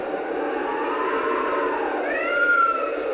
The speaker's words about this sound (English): Then, the wind began to blow.